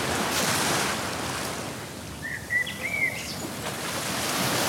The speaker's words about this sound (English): Chilling at the beach. The day is so beautiful. The sun is shining. The water is glistening and the birds are chirping away in the background.